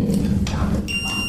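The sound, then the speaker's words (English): Partway through a quiz match, an electronic game show buzzer sounds a steady, bright, high-pitched tone and holds to the end, over a murmur of background voices and room noise. “Oh, there's one buzzer broken on this side.”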